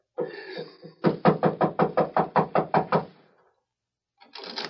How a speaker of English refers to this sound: Knock on the door, Hegan.